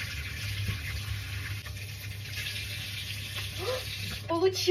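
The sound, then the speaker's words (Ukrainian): Hot tap water runs steadily over a non-silicone dessert mold to get the dessert out, a continuous hiss and splash throughout, with a low background hum and a few faint vocal sounds near the end. “По гарячу воду попробую.”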